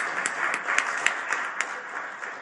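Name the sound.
audience applause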